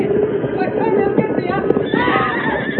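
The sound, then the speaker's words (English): The horse Silver gallops toward a stampede, hooves drumming in a rapid, steady rhythm, loud and continuous throughout, with a horse whinnying over the dense rush of hoofbeats. “Faster, Silver. Faster.”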